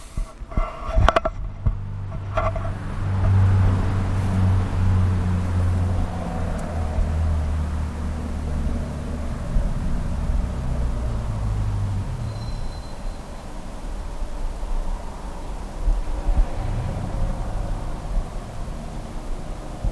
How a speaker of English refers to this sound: here goes another bloody car along here. Reads on this one, it's making a heap of noise. Just listen to this one come across.